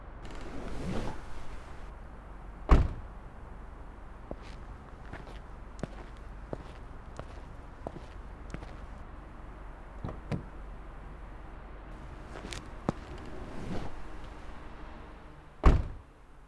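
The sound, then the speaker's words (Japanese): A car door is opened for a woman with a solid thunk, footsteps scuff along at a steady pace, and the door shuts with another heavy slam near the end. No one speaks. “お兄さん、車で来てたのね。それじゃあ、エスコートがてら、ドア開けてくれるかしら？”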